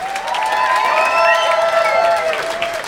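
A crowd applauds and cheers steadily, dense clapping with high whoops and shouts riding over it, loud and sustained without a break and no clear speech.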